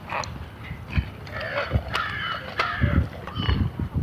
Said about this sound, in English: You can probably hear the crows. There's like 2, 3, 4, 5, 6, 7, 8, 9. There's like 10 crows flying around.